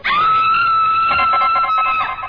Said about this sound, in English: in 1935, I met Miss Elsa Lanchester in the scream heard around the world